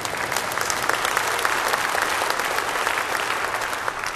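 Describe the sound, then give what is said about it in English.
A crowd applauds steadily, many hands clapping in a dense, crackling wash that holds an even loudness for several seconds with no voices on top. “If you don't like your sin, you'd have clapped.”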